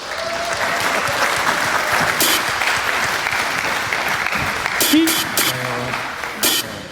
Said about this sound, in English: Let's applaud and make sure they have to be ready.